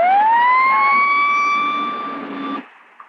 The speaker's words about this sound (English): 911, put on your siren now. Negative on the siren. Bravo, K1. Sound your siren.